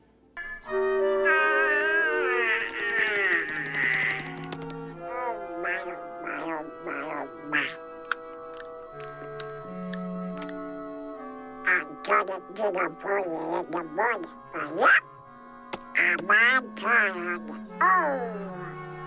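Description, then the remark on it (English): A singer at an evening performance sings the whole Roasting Swan aria from Carmina Burana in a squawking, quacking Donald Duck voice over a soft sustained accompaniment, the phrases rising and falling in quick, choppy bursts throughout. “So he turned up at the evening performance, stood up at the appropriate moment, and delivered the whole Roasting Swan aria in, can you guess, the voice of Donald Duck.”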